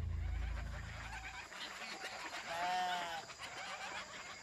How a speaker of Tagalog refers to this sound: Pero nang sumunod na gabi, nakarinig si Tiyo Atoy ng ingay sa kulungan ng mga manok niya.